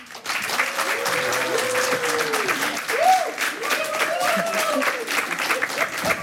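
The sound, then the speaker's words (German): A crowd applauds steadily and loudly for several seconds to welcome actor and director Milan Peschel as a guest, a dense wash of clapping, while a few voices murmur and call out faintly underneath. “Schönen Applaus, vielen Dank.”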